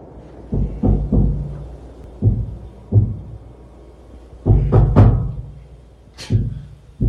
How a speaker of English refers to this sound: They claim that when they turned off the lights to go to sleep for the night, they began to hear knocking sounds. Here is an actual recording made that evening.